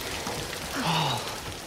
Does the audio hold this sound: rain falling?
yes